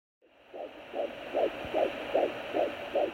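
A rapid, steady whooshing fetal heartbeat pulses about twice a second over a constant hiss, heard through an ultrasound monitor at a six-week pregnancy appointment. Nobody speaks.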